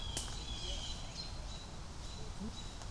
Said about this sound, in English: Yeah, we got some irate birds.